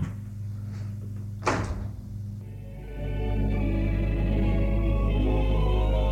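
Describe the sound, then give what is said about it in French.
A man opens his door in the evening after someone rang the doorbell, with a sharp click of the latch and a brief creak, followed by a steady low rumble and hum spilling in. “Un soir, on a sonné à sa porte. Il va ouvrir.”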